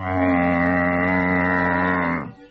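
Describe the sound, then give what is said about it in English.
A single long, loud moo from Venus de la Bay, a pedigree Guernsey cow currently in calf, holds a steady low pitch with rich harmonics for about two seconds, then drops off abruptly at the end. No one speaks. “But apart from potatoes and tomatoes, there are also cows, including Venus de la Bay.”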